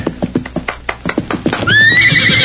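Rhythmic hoofbeats give way to a loud, high-pitched horse whinny that holds and wavers for about a second as the rider reins the horse up sharply, with no voices present.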